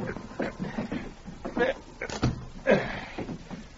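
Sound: cabin door closing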